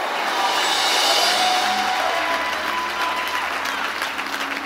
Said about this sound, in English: Come on, give Jesus a great hand clap.